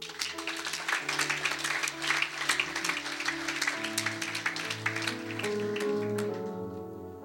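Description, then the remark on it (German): A crowd applauds with dense, steady clapping over sustained low musical tones, like an organ or keyboard playing chords beneath; the applause stays fairly loud throughout and thins slightly near the end. “Hey, gib denen doch mal einen Applaus.”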